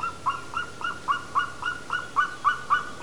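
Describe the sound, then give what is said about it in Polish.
A golden eagle calls in a quick, steady series of about ten short, sharp yelping notes, each clear and moderately loud against a quiet background with no voices. “Wcale nie jakiegoś drobnego ptaka, tylko również orła i to niewiele mniejszego od bielika.”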